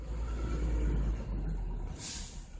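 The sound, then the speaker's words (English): Fire trucks and emergency responder vehicles rumble low and steady, with a brief hiss of an air brake near the end, as they drive in a line to Two Rivers Park in Glenwood Springs for a memorial ceremony, led by two Prineville Hotshots trucks. “Fire trucks and emergency responder vehicles drove in a line to Two Rivers Park. The vehicles were silent other than the rumbling of their engines.”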